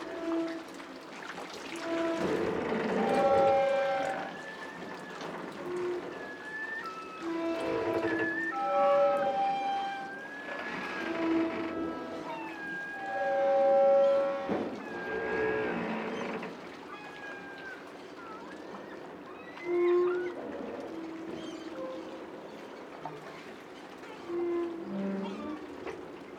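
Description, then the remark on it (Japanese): A harbor pier creaks and groans as waves rub against it, drawn-out sliding tones like a bowed string rising and falling irregularly over a steady wash of water. “港に突き出た桟橋が波で擦れる音ですが、私には大きな弦楽器を練習している音に聞こえます。”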